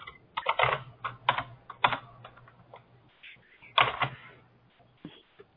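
Clatter of someone typing on a computer keyboard, irregular bursts of quick key clicks with short pauses, over a faint low electrical hum. No one speaks.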